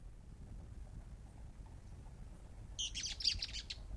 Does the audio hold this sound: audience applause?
no